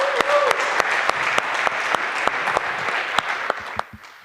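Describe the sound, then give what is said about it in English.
An audience at a lightning-talk session applauds warmly to welcome the first speaker, who gives a talk on identifying phishing domains, a dense, steady patter of many hands clapping with a few sharper claps standing out, sustained for about four seconds before trailing off. “please give him a warm round of applause as our first speaker.”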